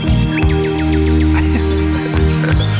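A loud, bouncy novelty dance tune with a repeated string of chirpy, bird-like electronic tweets over sustained organ-like chords and a steady bass. No one speaks over it.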